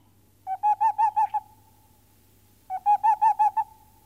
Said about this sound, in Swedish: ja det där var pärlugla för övrigt